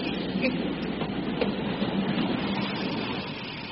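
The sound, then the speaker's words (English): A train rumbles steadily as it brakes toward a stop after a passenger pulls the chain, a dense, continuous clatter and roar with faint tonal squeals running through it and no voices. “I only hope you will acknowledge that I was right in saying that the train would stop.”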